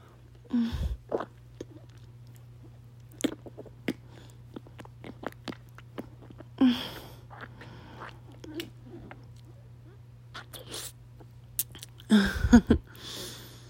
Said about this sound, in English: I know she's absolutely gonna love sucking and slurping just as I am doing right now, baby.